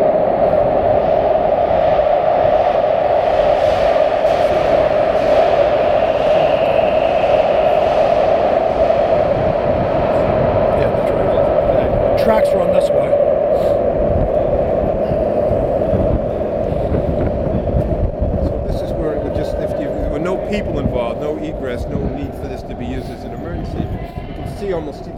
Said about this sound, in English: So you can feel the train starting to come. You can feel the positive pressure.